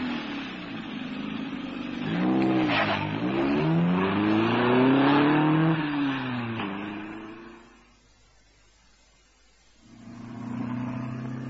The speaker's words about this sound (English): I hurled myself in the general direction of his voice, heard the engine fire, jumped in, and found myself screaming towards the dense New York traffic and comparative freedom in a swirl of dust and burning rubber.